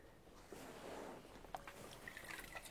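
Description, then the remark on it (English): Quiet water moving in a bath, with soft sloshing and faint trickling, plus a few small splashes near the end. Low in volume, with no voices. “Is the water okay? Not too cold?”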